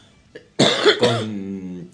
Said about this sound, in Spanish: No me toses al micrófono